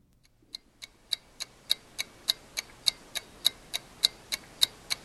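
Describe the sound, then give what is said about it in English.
A ticking clock, used as the sound of a ticking bomb in a Republican National Committee ad of October 22, gives off sharp, evenly spaced clicks at a brisk steady pace, about three or four per second. The ticks are crisp, with no voices. “So against that clicking, ticking clock”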